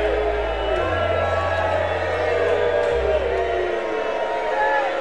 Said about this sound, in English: Booing Cardoza.